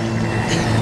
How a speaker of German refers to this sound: Ein Auto kommt.